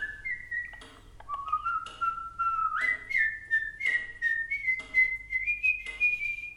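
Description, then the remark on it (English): A clear whistled melody of long, smoothly held notes stepping up and down in pitch, with faint clicks and rustles behind it and no talking: Mozart whistling a tune at a caged starling in a shop in Vienna, 1784. “A 28-year-old Mozart, jaunty in his garnet coat and gold-rimmed cap, strolled into a shop to whistle at a starling in a cage.”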